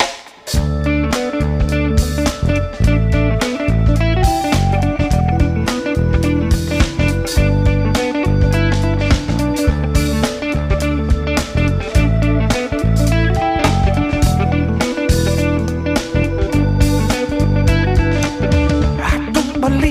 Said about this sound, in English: I'm going to play a song from the opener.